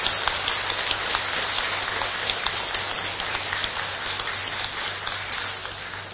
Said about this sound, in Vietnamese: các anh chị đã biến ước mơ lên xe hoa trao nhẫn cưới chính thức với nhau thông qua một nghi thức lễ có sự chứng giám của cha mẹ, bà con, bạn bè, và đặc biệt là có mặt ngày hôm nay tại Chùa Giác Ngộ, cho một tràng vỗ tay thật lớn để tán dương chung.